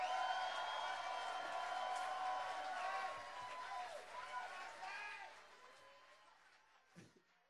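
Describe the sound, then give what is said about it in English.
An audience applauds and cheers for the band, a dense wash of overlapping voices and clapping that stays loud for a few seconds, then gradually thins out and fades. “Give another big round of applause to the band, the band.”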